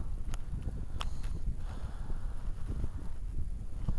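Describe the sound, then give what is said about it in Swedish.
Steady, chilly wind rumbles and buffets outdoors within sight of Älvsjöberget, a low constant roar with a few faint clicks and knocks scattered through it; no one speaks. “Och lite småkalla vindar är det här.”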